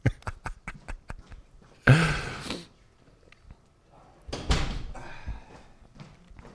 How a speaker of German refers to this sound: Soll ich eben die Tür zu? Ja, mach ich mal die Tür zu.